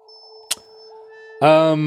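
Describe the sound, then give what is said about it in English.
A steady faint electronic tone and a brief click, then a voice loudly sings a sustained beep-like note, imitating the handshake squeal of a fax modem. “We're going to go back to our fax machine roots. Beep, boop, boop, boop, boop, boop.”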